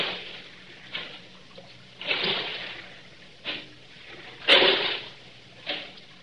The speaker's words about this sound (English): Now, I will row you round the Blue Grotto.